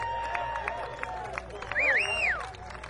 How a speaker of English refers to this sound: Let's give the band another round of applause. Come and do it. …. Come and do it.